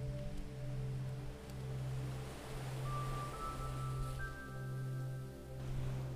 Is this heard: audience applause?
no